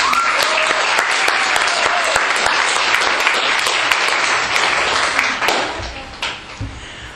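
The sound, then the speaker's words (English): An audience claps together in a dense, sustained burst of applause welcoming the evening's main speaker, holding steady for several seconds, then thinning out into scattered final claps. “Will you please give her a round of applause and welcome her?”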